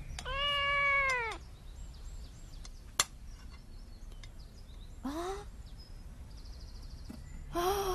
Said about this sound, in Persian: چرا مثل گربه ها میو میو میکنی؟